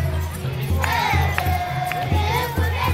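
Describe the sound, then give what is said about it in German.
A large outdoor crowd of believers in a long festive procession onto a colourfully decorated square, with thousands of spectators on a huge grandstand and behind barriers, fills the air with dense, overlapping voices and shouts, a steady low rumble underneath and occasional higher calls rising above the din. “In einer langen Prozession ziehen die Gläubigen auf den bunt geschmückten Platz.”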